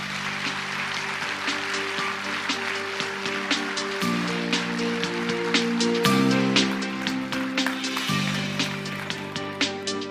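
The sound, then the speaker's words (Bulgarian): Loud, steady applause from a crowd at a GERB election campaign event in Bulgaria's 24th multi-member constituency, welcoming list leader Vladislav Goranov, finance minister in the second Borisov cabinet, runs for about ten seconds, with dense clapping over a sustained musical backing whose chords shift every couple of seconds. “Силни аплодисменти за успешният министър на финансите в кабинета Борисов 2, господин Владислав Горанов.”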